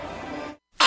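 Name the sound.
child sneezing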